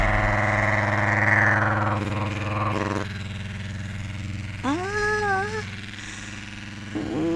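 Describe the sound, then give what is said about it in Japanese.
A suction vibrator toy runs with its suction function in use, giving a loud, strong, steady, growling motor buzz. Its pitch shifts partway through, and a brief rising whine appears before the hum settles again. “まず吸引バイブの吸引のとこ使えるかやってみようか。”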